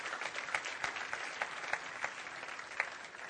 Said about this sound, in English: give the Lord a good clap off for this one. Would you do that? Come on.